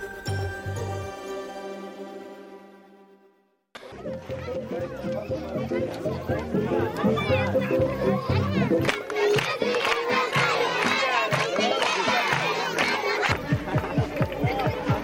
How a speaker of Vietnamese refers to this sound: Tiếng trẻ em vui chơi ca hát là một âm thanh vui tươi có tính chất phổ quát ở tất cả mọi nơi. Những âm thanh vừa rồi là từ các trẻ em di tản tại dải Gaza khi được xem các thành viên của một nhóm xiếc biểu diễn giúp vui cho các em.